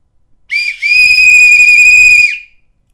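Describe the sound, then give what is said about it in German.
A loud, piercing blast from a small silver whistle blown as hard as possible: a short chirp then one long sustained shrill tone lasting about two seconds with a slight downward bend at the end, alone. “In diesem Augenblick blies Lisa so kräftig sie konnte in die kleine silberne Pfeife.”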